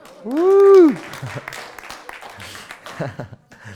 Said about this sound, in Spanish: Un aplauso.